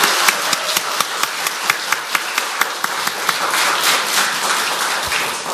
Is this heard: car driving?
no